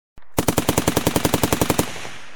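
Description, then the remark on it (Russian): A loud, sustained burst of automatic rifle fire: about fifteen rapid, evenly spaced shots over roughly a second and a half, cutting off abruptly with a short fading tail. “И тут же добавилась очередь из автомата.”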